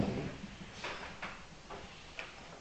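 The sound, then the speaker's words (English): A door being opened inward, heard as a few soft clicks and light knocks spread over a couple of seconds, fairly quiet against a low room hum, with no talking. “Yeah, it opens in here.”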